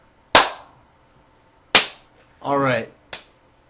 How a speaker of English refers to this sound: On that note, let's give the official high five to end this intro.